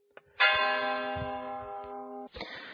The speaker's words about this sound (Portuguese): Então, após os sinos terem feito dobrar e feito o trabalho deles, retornamos aqui ao trabalho.